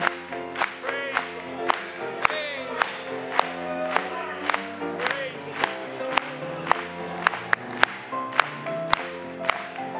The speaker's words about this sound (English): Let's clap it to him this afternoon.